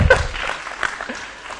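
A short burst of audience applause for someone who read out a list of names, many hands clapping in a dense, crackling patter that starts strong and eases off slightly over under two seconds.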